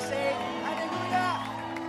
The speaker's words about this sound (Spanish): ¿Cuántos dan un grito de alegría?